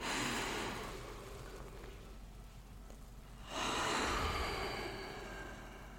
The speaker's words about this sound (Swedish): Och sen tar vi ett djupt andetag in.